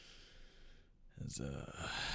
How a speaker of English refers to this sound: Oh yeah, I had to. Ooh, blow my nose.